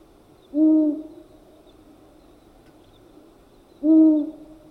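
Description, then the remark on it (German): Two low, soft owl hoots spaced about three seconds apart, each a short steady hollow note like blowing across a bottle, with quiet background between them. A long-eared owl calling. “Die Waldohreule besitzt eine der unheimlichsten Stimmen unter den Vögeln.”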